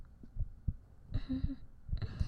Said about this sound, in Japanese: お酒飲んだらちょっと変わる気がするんですよ。またなんかなってる。その鼓動音が少し早くなる気がするんですよね、今よりも。